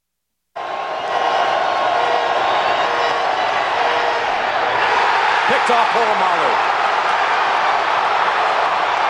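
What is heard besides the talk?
stadium crowd roaring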